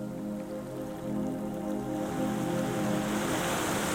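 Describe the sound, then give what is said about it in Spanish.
Steady surf rushes and hisses onto a lonely beach, a continuous wash of breaking waves that swells slightly louder toward the end, with no voices present. “hasta que finalmente llegaron a una playa solitaria como esta.”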